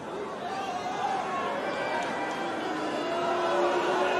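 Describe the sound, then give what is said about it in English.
A tennis crowd at a Djokovic match boos and murmurs in a steady, sustained roar of many voices, holding at a fairly loud level across the whole stretch and swelling slightly toward the end. “See, the crowd is booing.”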